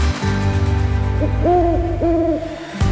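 An owl hoots three times, a short call followed by two longer, wavering hoots, clear over a steady low rumble with no one speaking.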